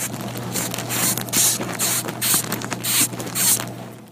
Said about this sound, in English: It's not a person. That's a sound a moth makes. It's the insect world.